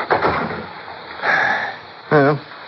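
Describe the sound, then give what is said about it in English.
An unlocked front door swings open with a short burst of rustling and clatter, followed a moment later by a brief, wavering creak of the hinges. “Come on in. Door's open.”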